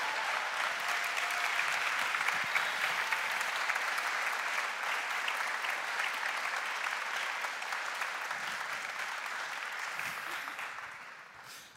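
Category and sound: crowd, church audience applause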